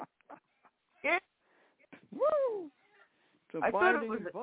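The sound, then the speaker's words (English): A bird squawks in a few harsh, bursting calls, short chirps first, then a loud rising-and-falling screech and a final raspy squawk, fairly loud with quiet gaps between. “That's what Ralph inherited, a bird.”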